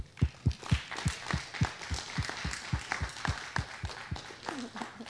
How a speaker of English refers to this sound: let's honor her as we clap and stand as she comes.